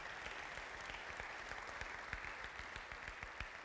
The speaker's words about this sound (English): Go ahead, clap. That was a good statement.